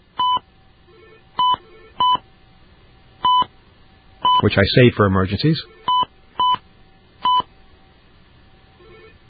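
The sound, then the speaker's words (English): Eight or so crisp telephone keypad dialing tones beep at an uneven pace as someone dials a number, each short and clear, with a man briefly speaking partway through before the tones resume. “All right, I'm going to dial my special number.”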